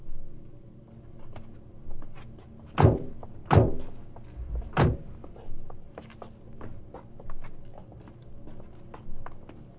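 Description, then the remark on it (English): Three heavy car doors thud shut in quick succession and are locked, loud, with a scatter of light clicks and ticks around them and no talking. “Make sure you lock your doors.”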